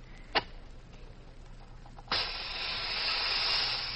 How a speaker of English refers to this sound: I'll light a flare here, Gene. There. I just hope the rain doesn't kill it.